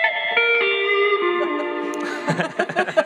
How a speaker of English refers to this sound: And then there's going to be more classic rock sounds with distortion, you know, this kind of sound.